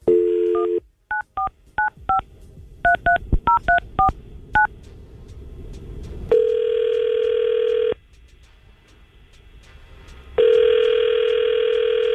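A rapid string of about ten touch-tone beeps dials a number, followed by two long, steady ringback tones separated by a pause of silence. No one speaks.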